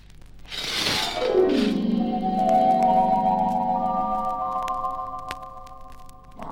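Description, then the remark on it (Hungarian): A large crystal bowl shatters with a sharp, bright crash, then a swooping downward tone gives way to long, steady glassy ringing that hums on for several seconds before fading. “Oh, ne nyúlj hozzá, összetöröd.”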